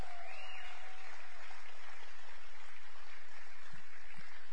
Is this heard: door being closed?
no